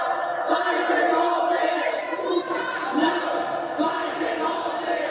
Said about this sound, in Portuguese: No entanto, na rua, vozes levantavam-se bem alto para gritar o contrário e para clamar que o povo não vai deixar passar o golpe.